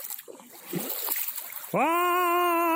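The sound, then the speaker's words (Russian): Irregular sloshing and splashing of someone wading knee-deep through cold floodwater toward the riverbank for a couple of seconds, during river flooding after heavy rains in the Krasnogorsk and Istra districts west of Moscow. Then a loud, sustained, tonal cry abruptly takes over. “По колено практически. Вот, сейчас я доберусь до берега.”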